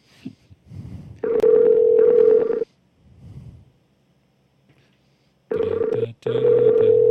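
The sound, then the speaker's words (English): A telephone dialing a number: loud, steady mid-pitched electronic tones come in two paired bursts separated by a quiet gap, with faint muffled noises in between. “As I push the magic button again and hope that I put in the right phone number.”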